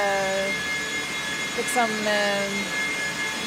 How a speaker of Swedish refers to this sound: Det är ett ständigt arbetande system som för bort värmen från servrarna och tillför kyla. Och man blir lite knäpp när man har lyssnat för länge på det här ljudet, tror jag. Servrarnas egna fläktar, det är de som låter. Det låter som någon slags...